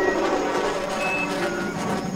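A train passing, a steady, loud mechanical roar that holds constant throughout, with faint high-pitched squealing tones drifting over the rumble.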